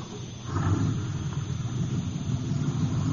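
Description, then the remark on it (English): A small truck's engine runs at the side entrance of a warehouse with a steady low rumble, growing a bit louder after the first half second and holding even throughout, with no voices. “Now he's getting back in the truck.”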